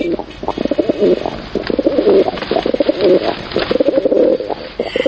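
Pigeons coo in a steady run of low, throaty, rolling phrases, one after another with only brief gaps and no voices.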